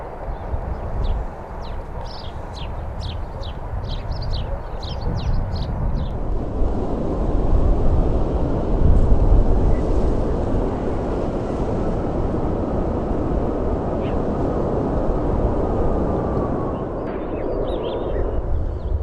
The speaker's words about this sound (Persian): و در آخر این فیلم رو ببینید که یک هواپیمای خطوط هوایی بریتیش ایرویز سعی میکنه با وجود وزش شدید باد در فرودگاه سان سباستیان در اسپانیا فرود بیاد. ممکن بود این هواپیما سرنوشت بدی پیدا کنه، اما همه سرنشینان این هواپیما به سلامت هواپیما رو ترک کردند.